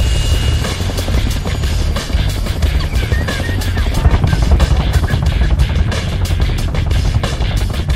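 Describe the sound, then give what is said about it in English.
A loud helicopter roars steadily, its rotor thumping in a rapid low throb over a dense wash of engine and wind noise that never lets up. “You are five men in a helicopter.”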